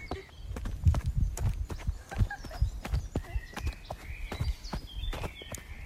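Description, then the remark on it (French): Horse hooves galloping in a steady, quick rhythm of repeated thuds and clops, moderately loud, with no voices over them. “On entend encore son galopement.”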